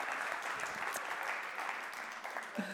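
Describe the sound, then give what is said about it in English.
A group of people gives a round of applause for someone who helped out, steady dense clapping throughout at a moderate level, with no voices standing out. “Can we give him a round of applause for helping out?”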